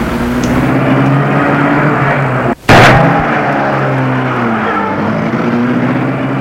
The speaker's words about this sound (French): Le chauffeur met la voiture en marche.